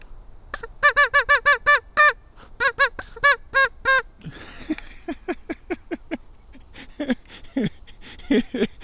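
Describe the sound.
A duck call honks out a bouncy, rhythmic song tune: rapid bursts of nasal quacks in phrased groups, then lower, choppier honks in a syncopated pattern, loud with no talking.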